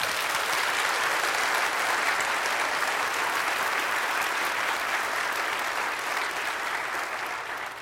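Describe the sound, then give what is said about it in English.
The Portland Christian Center audience applauds steadily for several seconds to honor its pastor as a spiritual leader of the church community, a dense, even clatter of many hands clapping at once that holds its loudness before easing slightly at the end. “Friends, will you recognize Pastor Harold's place of honor as a spiritual leader in this church community by responding yet again with your applause?”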